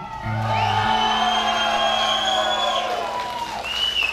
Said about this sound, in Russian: Мы никому не рассказываем, как вы кричали «Браво!», «Бис!», орали, хлопали, свистели.